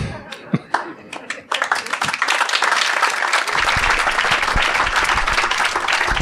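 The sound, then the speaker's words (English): A few scattered claps give way to an audience at the end of a Greenbelt Festival talk breaking into loud, sustained applause, a dense wash of clapping that holds steady for several seconds. “Thank you so much, and a massive round of applause again, please.”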